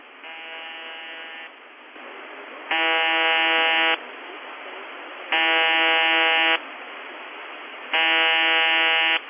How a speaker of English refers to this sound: We've also been noticing periods of very, very weak buzzer, but where the buzzer itself is actually on a weak mode and you have a sudden switch where the buzz goes from quiet to strong.